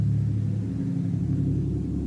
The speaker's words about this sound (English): It's the great thing about being in Alabama, you get to hear the big trucks drive by in the middle of recording.